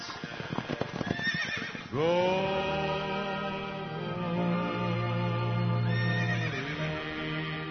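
Quick hoof clip-clops tap for a couple of seconds, then a horse lets out a loud, long neigh that wavers and rises again near the end.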